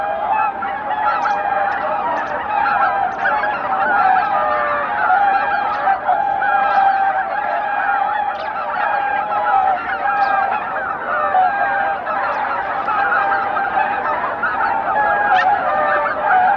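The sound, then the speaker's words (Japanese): A large flock of swans returning after 3 p.m. at a pink sunset at Izunuma lake, Japan, honks and calls continuously, a dense overlapping chorus of goose-like cries that stays steady and fairly loud throughout, with no speech. “午後3時過ぎ、遠くから群れが帰ってきました。”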